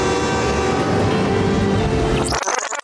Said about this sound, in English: Mister, there's a train coming!